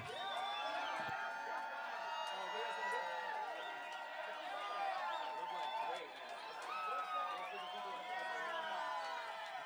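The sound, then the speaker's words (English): An outdoor concert crowd at Mount Shasta cheers and shouts steadily for about ten seconds, many voices overlapping in a dense, loud roar with scattered whoops rising above it and no break in the noise. “If you want more, you better cheer.”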